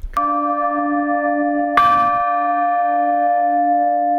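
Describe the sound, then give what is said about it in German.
A large cracked church bell is struck twice, each strike blooming into a long, sustained ringing tone with an unsteady, wavering shimmer caused by the crack breaking the bell's symmetry. No voices are heard. “Wenn jemand zu Hause seine Kirchenglocke so klingen hört, dann ist das ein Warnsignal.”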